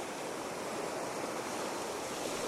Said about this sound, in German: Die Wellen hat das nie gestört. Kontinuierlich. Und in ihrer Kraft auch unerbittlich strömen sie hier auf das Land.